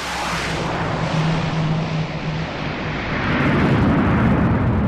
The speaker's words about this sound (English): On a dirt runway carved discreetly into a hillside, a U.S. military transport plane touches down. This is the main logistics hub for the American effort here in northern Syria.